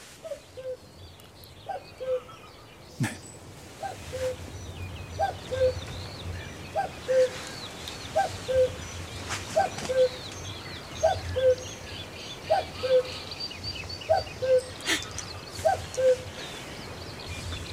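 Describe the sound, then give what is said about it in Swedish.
A common cuckoo perched right by a studio calls its two-note falling cuckoo over and over at a steady pace, loud, with faint birdsong and a low rumble behind it and a couple of sharp knocks. “Och här sitter en gök nästan inne i studion.”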